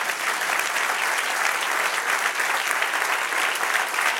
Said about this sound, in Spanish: Dale otro aplauso, Señor.